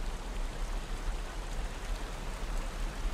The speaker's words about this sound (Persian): واقعا؟ فکر میکردم زیبایی این آبشار شما را سیر کنه.